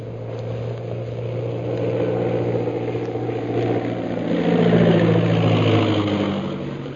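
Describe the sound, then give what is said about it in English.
A steady, droning propeller engine of a scout plane circling in to land on a parade ground hums continuously, swelling louder toward the end, with no voices present. “As the scout plane circles in for a landing on the parade ground, Bluger, accompanied by General Lin Pu and Shanghai Lil, rushes out of the castle.”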